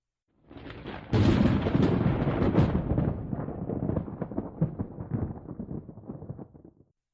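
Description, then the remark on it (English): A loud thunderclap cracks open and rolls on as a long, rumbling peal, crackling and slowly fading over several seconds, during a lightning storm with dark clouds threatening rain, with no voices present. “That lightning shooting over the premises certainly didn't help.”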